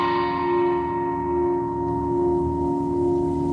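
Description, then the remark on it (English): A small 10-inch gong rings out after a single strike, its shimmering metallic overtones fading while a steady, humming tone lingers for several seconds, fairly loud with no talking. “Another 10-inch.”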